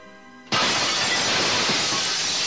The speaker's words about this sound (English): Astromech droids were breaking through the one-way glass.